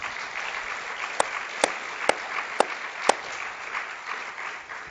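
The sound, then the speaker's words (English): A crowd gives the Lord a round of applause, clapping together in a steady, sustained round, with a handful of sharper, louder individual claps cracking out at regular intervals above the wash of hands. “So let's just give the Lord a round of applause.”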